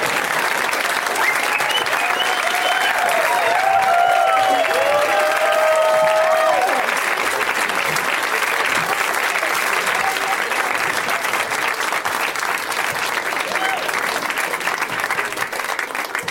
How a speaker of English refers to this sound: And let's get the guests out here. Please welcome Paul Scheer, Rob Hubel, and Dominic Monaghan. You have to clap until they come out.